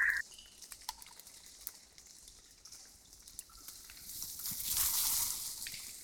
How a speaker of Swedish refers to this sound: Och så hör man, tycker jag då, en eld som sprakar, och jag tänker mig nästan som en ursprunglig familj, en grotta, någonstans i tidernas begynnelse.